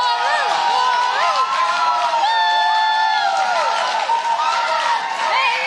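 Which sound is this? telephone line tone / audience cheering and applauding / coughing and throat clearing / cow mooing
audience cheering and applauding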